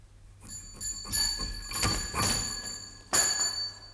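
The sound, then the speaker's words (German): A pulled doorbell at a home, one evening in June 1889, jangles several times in quick, uneven succession, its bright metallic tones ringing on and overlapping before a final louder peal. No one speaks. “Eines Abends im Juni 1889, ungefähr um die Stunde, wo man gewöhnlich anfängt zu gähnen, wurde bei mir zu Hause die Glocke gezogen.”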